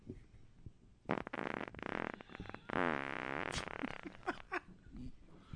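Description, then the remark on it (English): Loud, raspy fart noises: a short burst, then a long wavering drawn-out blast with a bubbly, fluttering tone, trailing off into a few brief sputters. No talking. “That is the first time I farted”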